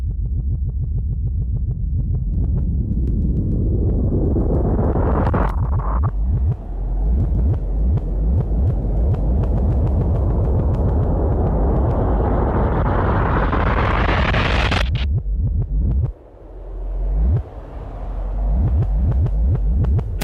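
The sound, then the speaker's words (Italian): A loud, continuous rumbling roar of a thunderstorm fills a phone line, swelling and crackling for about fifteen seconds before breaking off into choppy, distorted bursts. No one speaks. “Io mi scuso, ma purtroppo il temporale.”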